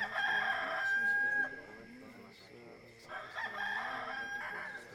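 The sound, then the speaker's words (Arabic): A rooster crows twice, loud, each call a long strained cock-a-doodle-doo with a short quieter gap between them. “وفي الحال صاح الديك، فتذكر بطرس الكلام الذي قاله يسوع: قبل أن يصيح الديك تنكرني 3 مرات.”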